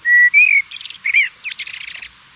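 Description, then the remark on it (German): A person whistles an imitation of a blackbird's song: a short, clear phrase of a few fluted whistled notes followed by a rapid, squeaky twittering flourish, fairly loud with no other sounds around it. “Das wäre jetzt aber zum Beispiel ein Amsler.”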